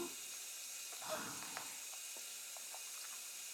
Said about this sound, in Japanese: では、シャワーの水がお湯になるまで、ここで放水しておきまして。